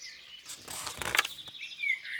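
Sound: birds chirping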